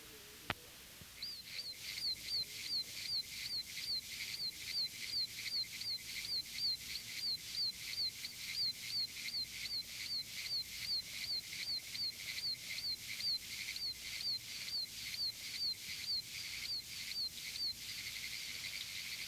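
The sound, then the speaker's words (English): A steady series of sharp, high-pitched peeps, the call of the oak toad (Bufo quercicus), repeats at a quick, even rhythm, about two per second, over a dense, buzzing chorus of pinewoods tree frogs that continues throughout. “Its call is a high-pitched peep, very much like that of a baby chick. It is heard here with a background chorus of Pinewood's tree frogs.”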